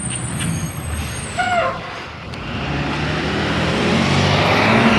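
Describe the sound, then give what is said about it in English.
A school bus rumbles past, its air brakes giving high squeals and a short hiss, and the heavy engine noise swells steadily louder as it passes. No one speaks. “Ah, school bus. Good morning, school bus.”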